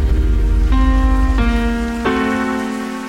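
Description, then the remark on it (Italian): Soft, steady patter of light rain ends a song, filling the background while sustained synth-like chords ring out, shifting three times in slow succession, with no voices. “…, finisce con questa pioggerella”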